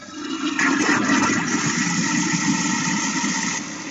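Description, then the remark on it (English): A toilet flushes after a 9-volt battery is dropped in, one sustained rushing whoosh of water, loud, lasting a few seconds before tapering off slightly at the end. “Will it flush?”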